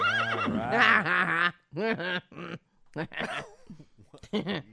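A horse whinnies loudly and close up, a long wavering neigh followed by several shorter snorting, whinnying bursts with brief pauses between them. No talking.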